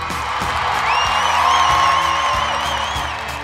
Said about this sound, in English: can I get you to hit that applause button, my friend?